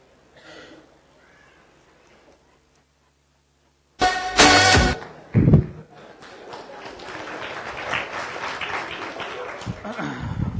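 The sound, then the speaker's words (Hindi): After faint talking and a brief silence, an audience breaks into loud clapping that starts abruptly with a few heavy bursts, then settles into steady, sustained applause until the end. “पता नहीं किसके लिए ताली बजाई आपने।”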